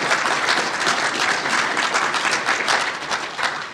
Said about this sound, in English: Go ahead. Applaud. That's fine. I see you starting.